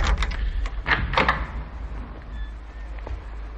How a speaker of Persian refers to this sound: با کلید در اتاق را باز می کند و وارد می شود.